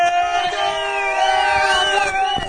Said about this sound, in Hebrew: יאללה, חזרנו. איפה מחיאות הכפיים שלכם? חוף הים, בת ים, בוא נשמע אתכם.